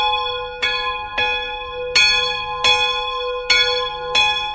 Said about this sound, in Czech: se teď zvon vrací na své původní místo, aby jeho hlas znovu spojoval lidi. Já si myslím, že zejména tady pro ty menší obce, jako jsou Dobronice u Chýnova, je to důležitá součást života těch lidí, kteří tady jsou.